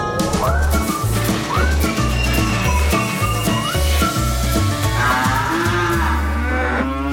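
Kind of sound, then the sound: animal, cows mooing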